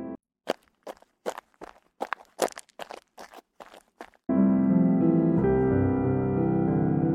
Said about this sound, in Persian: به این صدا گوش کن، این فقط صدای قدم نیست، صدای دلهایی است که هزاران کیلومتر دورتر قرار عاشقی گذاشتند. اینجا ثروتمند کنار کارگر راه می رود، پیرمرد عصایش را فراموش می کند، کودکی دنیا را در پرچم کوچکش خلاصه کرده است